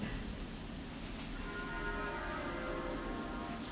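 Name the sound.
church bells ringing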